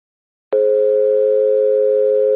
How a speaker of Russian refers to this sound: Здравствуйте. Вы позвонили в ЛТО. К сожалению, в данный момент никто не может подойти к телефону. Оставьте вашу радиогазету после звукового сигнала.